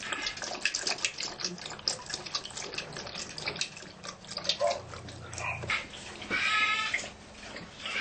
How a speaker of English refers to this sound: Here, cool, cool water. Look at that, how cool. Yeah. Yeah. Yeah, not me, the water. The water. It's cool, huh, Solo?